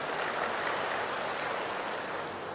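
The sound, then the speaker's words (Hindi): An audience claps for themselves at the speaker's request, a steady, dense patter of many hands holding an even level for a couple of seconds before easing off slightly, with no voices over it. “और जो लिखते नहीं हैं लेकिन चेक करते हैं हाँ, वो हाथ उठाएं, अच्छा वो बहुत है हाँ, वो कई 100 होंगे ऐसे समझो, तो वो भी अपने लिए ताली बजाएं हाँ।”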